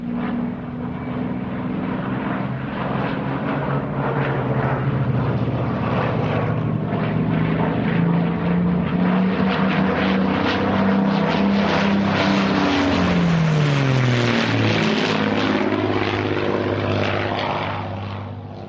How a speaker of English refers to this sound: Mosquito fly past, that was. All happening very quickly.